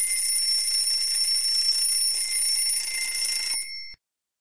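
An alarm clock rings at 8 in the morning, continuously with a shrill, high-pitched metallic jangle, loud, for about three and a half seconds before cutting off abruptly. No one speaks.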